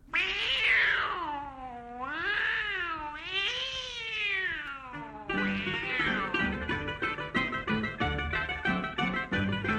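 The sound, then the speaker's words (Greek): A man's voice mimics a tomcat with long, drawn-out, wavering meows, loud, in an old Greek song recording about a tomcat, followed by the instrumental song where the meowing carries on over the music. “Το πρώτο μιλάει για έναν γάτο και αυτό το γάτο τον υποδίεται στην ηχογράφηση που θα ακούσουμε”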